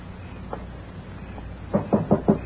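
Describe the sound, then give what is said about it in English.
Knocking on a front door: a couple of faint taps, then a quick run of five firm, evenly spaced knocks, clear with no talking. “What's that? Somebody at the front door.”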